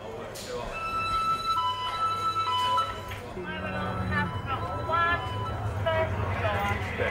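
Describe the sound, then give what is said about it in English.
A prison fire alarm in another house block sounds a steady, high electronic tone for several seconds, holding a flat pitch, while voices talk and call out over it as prisoners are outside, and a lower hum runs underneath. “Just minutes after the prisoners have come outside, a fire alarm in another house block sounds.”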